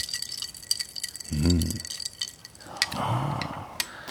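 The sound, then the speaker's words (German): Ice cubes clink against a glass in a string of sharp, bright, irregular taps, with a brief low murmur partway through and a soft rushing rattle near the end. “Eiswürfel. Pass auf.”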